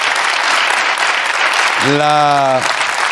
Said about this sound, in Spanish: Sí, de hecho has dicho, bueno, un aplauso para ese esfuerzo, ¿no? Y esa superación, tío.